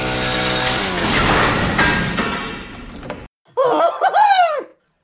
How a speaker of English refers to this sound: Speaking of depth and depth, here comes the pig bot chainsawing through the wall.